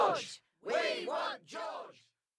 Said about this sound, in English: What on earth are they shouting? I think they want their favourite film star to put in an appearance.